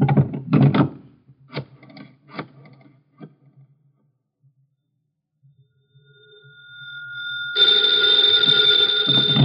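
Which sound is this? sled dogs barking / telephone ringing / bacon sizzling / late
telephone ringing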